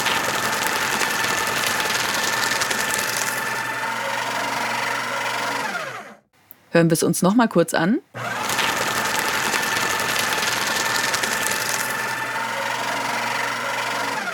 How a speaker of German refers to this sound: Das ist der Gegenstand. Nachdem wir uns ja bereits vom Papier verabschiedet haben, ist es diesmal, ihr ahnt es vielleicht, richtig der Reißwolf oder Aktenvernichter. Jene Gerätschaft, die still und leise in den Ecken unserer Büroräumlichkeiten steht